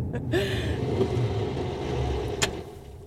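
A car rolls up and settles into a low, steady engine rumble, with a short squeak early on and a sharp click near the end.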